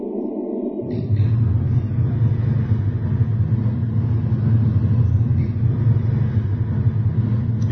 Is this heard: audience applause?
no